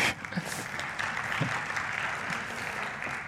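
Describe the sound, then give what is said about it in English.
A crowd claps steadily, a dense wash of many hands applauding at moderate volume, continuing evenly without pause and with no one speaking. “I'm not sure it's a good thing to applaud, but thank you.”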